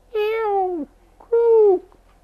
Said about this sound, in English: Seagulls. There's seagulls coming, flying, you know.